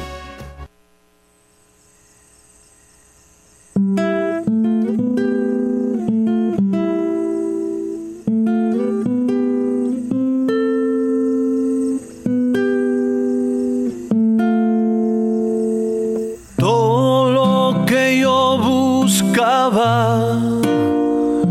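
A brief low hum opens, then a Latin rock band song kicks in loudly with sustained, ringing chords changing every couple of seconds, growing fuller and denser toward the end.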